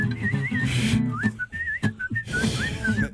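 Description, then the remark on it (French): A person whistles a wavering, sliding tune in short phrases over a steady background of low hum and murmur, the whistle clear. “Ok, y'en a-tu qui sont capables de siffler?”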